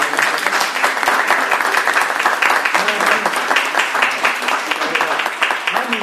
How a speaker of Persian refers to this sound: شما هم تجلیل بکنید ازشون. من چجوری میتونید تجلیل بکنید؟ با دست زدن.